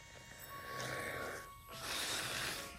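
A girl snoring asleep in her room, with a script open on the bed: two soft, rough breaths, a raspy inhale followed by a breathier exhale, with no talking.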